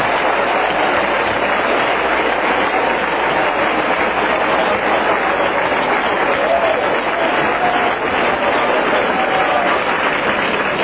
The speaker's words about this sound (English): Clap your hands to the Lord before you see him.